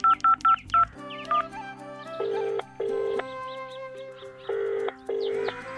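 Four quick keypad beeps from a phone being dialed, followed by a repeating electronic ringback tone in steady pulses, with faint bird chirps in the background and no voices.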